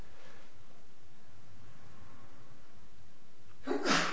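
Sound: sneeze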